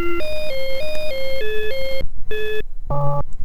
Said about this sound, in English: And yes, the bit collider is very noisy and staticky. All that static you hear is... well, it's okay. It's kind of supposed to be that way.